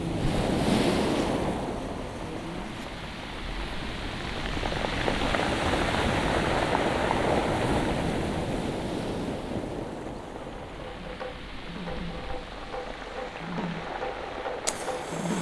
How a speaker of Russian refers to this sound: И шторм выбрасывает водоросли и крабов на берег океана, где местные жители плавают, едва вода прогреется хотя бы до 10 градусов.